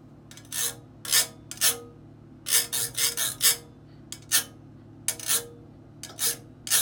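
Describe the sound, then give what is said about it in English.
A ridged zigzag can is rubbed in a kitchen in a series of short, bright rasping strokes, some in quick clusters and others spaced apart, over a faint steady low hum with no talking. “Here is a zigzag can.”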